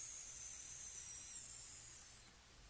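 A steady, airy hiss holds for just over two seconds before cutting off, with a faint low hum beneath it and no voices.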